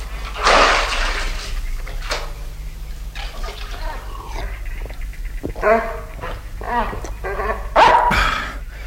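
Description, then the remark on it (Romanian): A dog named Lupi barks in a series of sharp, irregular barks, some with a whiny, growling edge, fairly loud over a steady low hum. “Stai cu minte, Lupi.”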